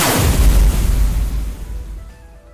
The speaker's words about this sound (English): The evil chocolate cookie launched fire cannon from block 14.